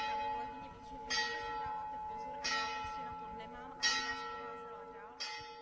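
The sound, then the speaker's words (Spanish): Bells of a palace clock on the wall of one of the palace's four wings, heard in the square main courtyard of the palace in Bystrice pod Hostinem, ring in a slow, steady sequence, four clear strikes about 1.4 seconds apart, each leaving a long shimmering resonance that overlaps the next against faint ambient background. “Nos dan la bienvenida a las campanas del reloj ubicado en la pared de una de las cuatro alas del palacio”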